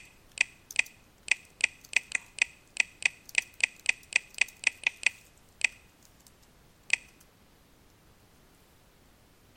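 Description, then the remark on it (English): Someone types a master password into the 1Password application on a keyboard: a quick, steady run of about eighteen crisp key clicks, then two spaced-out final taps before it falls quiet. No one speaks. “I'm going to type in my master password.”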